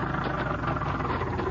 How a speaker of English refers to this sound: There's his car coming across the field.